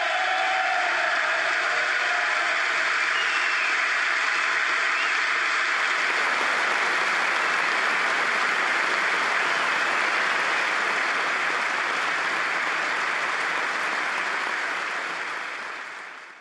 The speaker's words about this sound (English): Yeah, they're just a little bit extended applause, but the whole point of that is that wasn't uncommon in the speech. There was a lot of that, including when he entered the room.